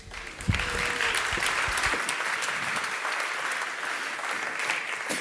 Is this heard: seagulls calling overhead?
no